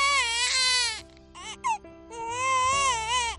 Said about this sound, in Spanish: El llanto, el nacimiento de un bebé, aunque en ocasiones esta llegada al mundo de un nuevo ser humano puede complicarse, y más con el coronavirus de por medio.